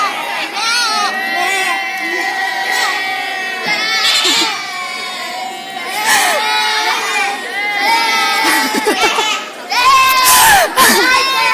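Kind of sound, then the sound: crowd, group shouting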